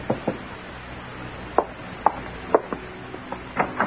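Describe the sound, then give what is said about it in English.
A series of sharp, hollow knocks on a door aboard a boat, struck in an uneven rhythm with short pauses between groups, over a faint steady hiss. No one speaks. “You're glancing at your watch when there's a knock on the door.”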